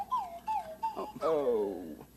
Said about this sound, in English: But King Friday? Yes, what is this? King Friday, that's slide whistle music, sir.